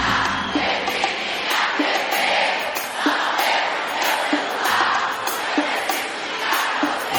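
A large concert crowd cheers and shouts continuously, a loud, dense roar of many voices with scattered yells rising above it throughout, no single voice standing out.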